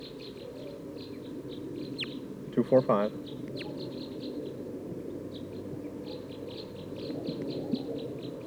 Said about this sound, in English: 2 of type 2 birds here in the top of this pine tree.